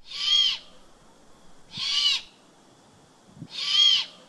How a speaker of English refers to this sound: This is a juvenile great horned owl